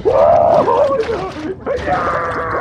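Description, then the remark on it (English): A cat, Dracula, screams and flails underwater after falling into a pool: loud, wavering, muffled yowls with gurgling, bubbly splashing, in two sustained bursts split by a brief dip. “Underwater, Dracula screams and flails.”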